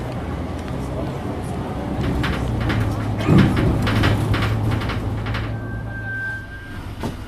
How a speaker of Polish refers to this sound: Wsiadam do autobusu.